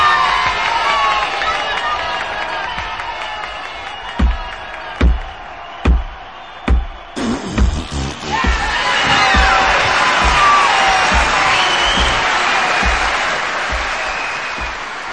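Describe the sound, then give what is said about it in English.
An audience cheers and applauds steadily as a blues singer act is welcomed on stage, swelling louder and brighter halfway through, with a run of heavy, evenly spaced thumps cutting in just before the peak. “Let's give a big warm welcome for …!”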